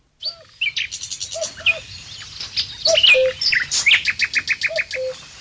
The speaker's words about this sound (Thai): ปักษาชาติร้องระงมสนั่นไพรเหมือนจะประกาศว่าพระผู้ทรงมหากรุณากำลังจะจากไปในไม่ช้านี้